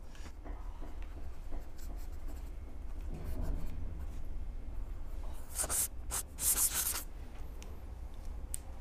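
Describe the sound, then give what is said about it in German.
A pen scratches and scribbles across paper in quick, uneven strokes as a guestbook entry is written, fairly clear, with a few sharper bursts of writing near the end and no talking. “So, zum Ende gibt es noch den Eintrag in unser Gästebuch der Riesen.”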